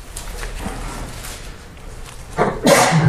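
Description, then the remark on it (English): A single sharp, loud sneeze bursts out near the end after a quiet stretch of faint background noise. “Bless you.”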